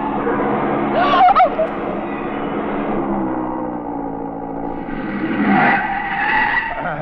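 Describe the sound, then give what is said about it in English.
A speeding Porsche sports car's engine roars steadily, with sharp tire squeals of a skid bursting out early on and again near the end as it skids off the road. “That Porsche ahead, he sees my lights. No, mon pauvre, no, not so fast.”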